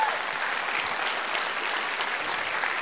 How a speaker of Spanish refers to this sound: Si Dios te habló, dale un aplauso al que se lo merece.